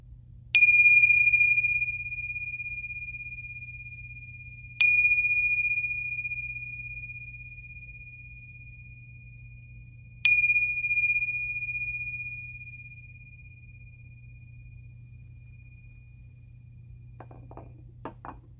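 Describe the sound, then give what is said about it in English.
A meditation bell is struck three times at a slow, even pace to begin a body scan meditation, each bright chime ringing out and fading into a long, shimmering decay over a low steady hum, with no voices. “I will ring the bells to begin and end our body scan meditation.”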